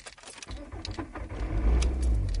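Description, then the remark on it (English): A car engine cranks and catches, its low rumble swelling into a steady idle, with a faint jingle of keys near the start. “Let's start the car up.”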